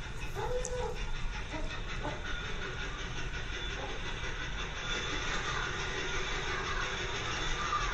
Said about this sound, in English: There was a locomotive at the other end, so it started pulling the train.